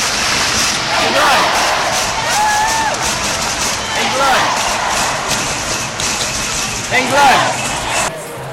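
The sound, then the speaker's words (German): A sold-out crowd at Wembley Stadium roars at the 2022 Women's European Championship final, England against Germany, as England's Lionesses win the title: a dense, continuous wall of cheering and shouting with rising and falling chants and whistles cutting through the noise. “Und so hat sich das im ausverkauften Stadion angehört.”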